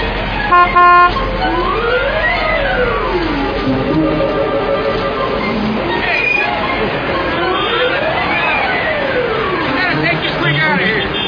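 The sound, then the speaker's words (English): A car horn blares in a loud burst near the start, then rising and falling wailing tones carry on over busy background chatter and traffic noise. “Nobody honks this horn but me, okay, pal?”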